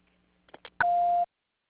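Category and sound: signal or alarm, answering machine beep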